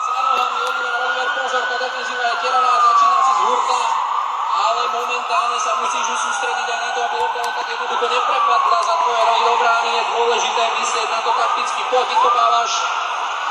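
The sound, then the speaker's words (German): A police car siren wails steadily and loudly, its pitch sweeping up and down in slow repeating cycles over a constant wash of background street noise. “Ich spiele euch mal ein, wie hier die Sirenen von den Polizeiautos klingen, ne, dass ihr da mal ein Bild von habt, ein Tonbild von.”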